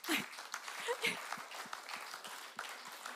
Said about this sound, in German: Und ich war nicht so begeistert wie ihr gerade mit dem Klatschen.